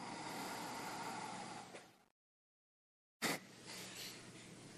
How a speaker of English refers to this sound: Close off the left and breathe out the right. And then at the end of the exhale, a little push.